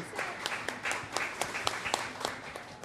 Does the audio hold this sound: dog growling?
no